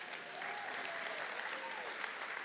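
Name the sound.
audience applause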